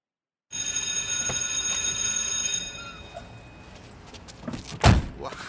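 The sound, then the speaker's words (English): A school's fifth period bell rings loudly for about two seconds with a bright, steady metallic buzz, then cuts off, followed by quieter shuffling and a sharp door slam. “That's the fifth period bell.”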